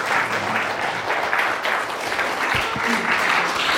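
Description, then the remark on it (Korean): A church audience applauds together at an Easter service, clapping for an evangelist's praise song and accompaniment to give glory to God: a dense, steady wash of clapping hands that stays loud and even throughout, with a few faint voices mixed in underneath. “우리 전도사님 귀한 찬양 우리 반주해 주신 우리 전도사님께 우리 박수로 다시 한번 하나님 앞에 영광을 드리겠습니다.”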